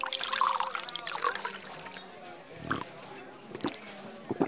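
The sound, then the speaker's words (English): The finest whiskey glugs and trickles into a glass for a few seconds, then tapers off into a few soft drips, with a murmur of voices in the background. “Your finest whiskey.”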